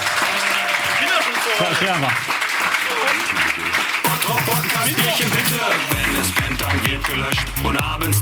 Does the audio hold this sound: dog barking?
no